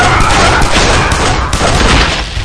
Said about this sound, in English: He instantly went for the blaster on his belt. Mildred and Christy fired in unison.